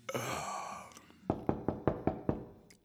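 A long weary sigh fades out, then six firm, evenly spaced knocks on a door rap out in quick succession, fairly loud.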